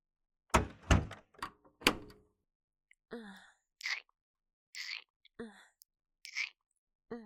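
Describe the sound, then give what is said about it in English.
An office door is pushed shut with a few heavy thuds and a latching clatter, followed by quiet, breathy voices murmuring in short bursts. “Just let me get the door.”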